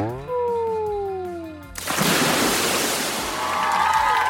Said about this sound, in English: Hi guys, wanna see me splash? Okay, here goes.